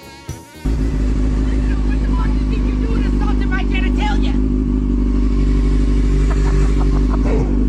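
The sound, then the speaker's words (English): After a brief start, a motorcycle engine roars into a loud, sustained rev and holds a heavy, steady drone, with faint crowd chatter beneath it. “You don't think that rev has any effect on the human body?”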